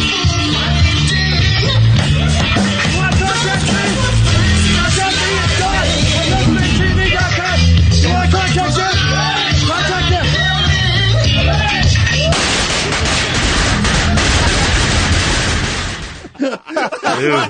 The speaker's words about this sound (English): Oh, no. Massive explosion. Massive, huge. In a room the size of your kitchen